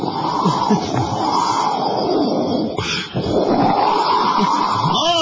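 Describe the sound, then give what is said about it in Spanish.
A voice imitates a howling windstorm, a steady loud whooshing roar that swells and dips in pitch for several seconds, with a brief break near the middle before rushing on. “Bueno, estaba repleta esa terraza y se levantó una tormenta de viento.”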